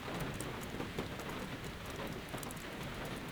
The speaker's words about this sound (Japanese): 私は雨の音色が好きなの。雨の中にいると心が落ち着くの。